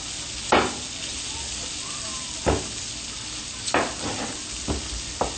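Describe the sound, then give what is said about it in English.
Onions sizzle steadily in the oil left in a frying pan after cooking cutlets, a constant bright crackling hiss broken by five sharp clacks of a utensil stirring or scraping the pan. No one speaks. “and then we're going to use the oil that's in there, and we're going to then add in our vegetables and then make a sauce right in that same beautiful, beautiful oil that's cooking up there.”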